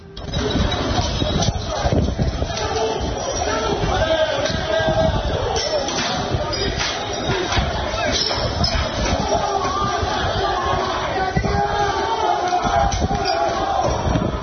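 Russian and English football fans, joined by Wales supporters, rioting in Lille: a dense, steady roar of crowd noise with frequent sharp crashes and bangs of chairs, shop windows and containers being smashed, loud and chaotic throughout.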